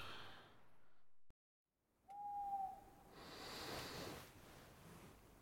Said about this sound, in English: It's only an owl.